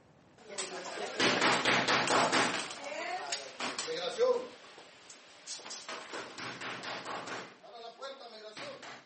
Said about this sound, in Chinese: 假装是执法人员的志愿者，大声敲门，敲门声很大，听众们都静了下来，这正是讲座发起者想要的效果。